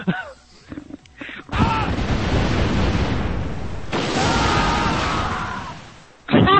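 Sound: cannon fire sound effect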